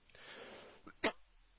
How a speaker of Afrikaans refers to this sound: Goed, ek hoor hom, ek is die al een wat hoes hier, so dit laat my beter voel.